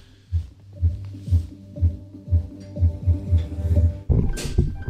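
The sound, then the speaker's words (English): A Google Home smart speaker's startup sound plays just after it is plugged in: deep, throbbing bass pulses roughly twice a second under sustained tones, building into a fuller, brighter swell near the end, with no one talking. “That's a rich sound coming out.”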